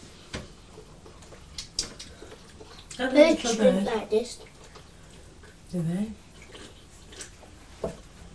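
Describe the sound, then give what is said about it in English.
A voice imitates a bird drinking, pretending it sips Ribena, with wet sipping and gulping noises: one burst lasting about a second, followed later by a shorter one, amid scattered small clicks. “I'm going to have the bird drinking.”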